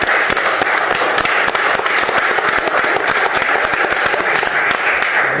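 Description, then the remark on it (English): People clap steadily for several seconds after a vote at a city meeting, a dense, continuous patter of many hands with no voices standing out. “Please give a warm round of applause to Thomas.”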